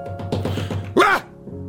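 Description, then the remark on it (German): A man's voice imitates a short, breathy 'wuff' grunt like someone makes when sitting down heavily, a single puff of sound that follows a few moments of speech. “das alles nützt nichts, wenn man sich nicht mehr hinsetzen kann, ohne wuff zu machen.”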